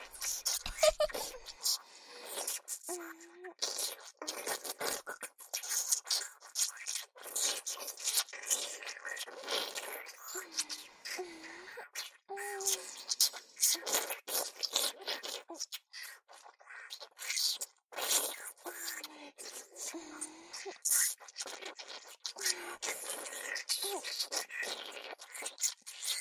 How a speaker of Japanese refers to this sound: 目の前の女の子の耳なめ、気持ちいいね。ドキドキしちゃうね。この音もなかなかいいみたい。 頑張ってお口に唾液を溜めまくった甲斐があったよ。